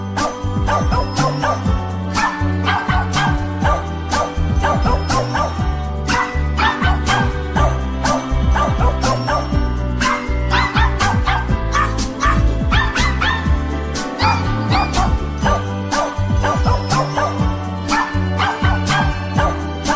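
Dog barks and yips arranged into a cheerful melody, following the familiar Ode to Joy tune over a steady musical backing, loud and continuous throughout with no talking.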